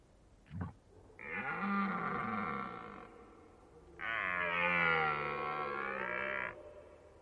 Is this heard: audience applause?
no